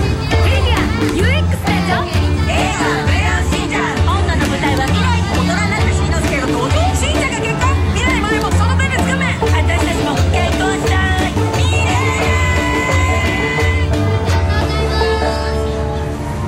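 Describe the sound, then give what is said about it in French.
Hachiko square in Shibuya, a meeting place with its small dog statue, full of steady crowd noise, with overlapping voices, chatter and children's calls forming a dense, continuous babble at a constant, fairly loud level throughout. “La place Hachiko avec le petit chien, c'est vraiment un lieu de rendez-vous.”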